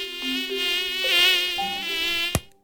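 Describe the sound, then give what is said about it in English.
A mosquito in Canada in summertime whines steadily, its thin high-pitched buzz wavering in pitch as it hovers, ending with a sharp slap on an arm held up to the microphone before silence. “Right now, if handled properly, mosquitoes in Canada are an annoyance, a buzzkill, even.”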